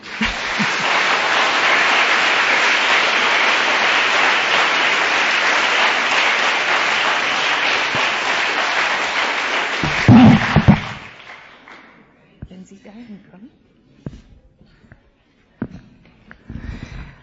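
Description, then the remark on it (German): Loud, sustained audience applause at a Bible study in Lobetal: dense, steady clapping from many hands for about ten seconds, then it fades quickly, leaving a few scattered sounds and a brief voice. “Und ich finde, jetzt sollten wir mal klatschen.”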